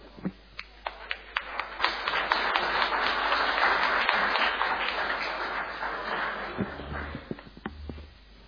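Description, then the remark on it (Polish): A group applauds at a Gryfino city council session after the vice-chairs are elected: a few scattered claps build into steady, dense clapping that holds for several seconds, then thins out to a handful of separate claps at the end. “Brawa.”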